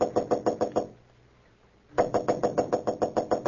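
Loud knocking by Clark Kent on the door of room 911 at the Marlborough Hotel in Marsden City: a quick run of about six raps, a second of quiet, then a longer, steady burst of rapid knocks. No voices.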